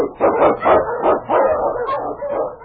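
animal, husky sled dog barking

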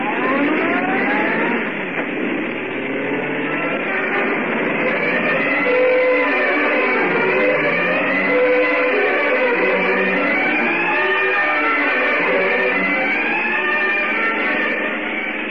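vehicle, car engine accelerating

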